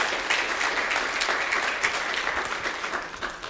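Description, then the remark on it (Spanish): A crowd applauds steadily, a dense wash of many hands clapping at an even level with no pauses, holding for a few seconds without any voices, applause given to the Lord. “Démosle un aplauso al Señor. Aplauso a ellos.”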